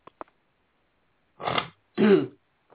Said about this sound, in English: sorry. I'm sniffling all over you guys. I really apologize.